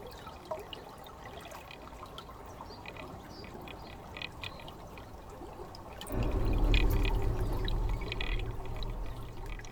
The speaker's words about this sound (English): The river water sounds cold and clear. I can see through it, and it makes me thirsty.